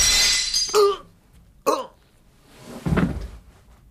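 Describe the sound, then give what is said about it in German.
A shop window pane shatters with a loud, bright crash as a bullet passes through the glass, followed by a second sharp crack of breaking glass and a rougher, duller burst of debris moments later. “Die Kugel drang durch das Glas des Ladengeschäftes und traf ihn auf Brusthöhe.”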